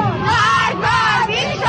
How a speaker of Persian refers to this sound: بله، فریاد مردم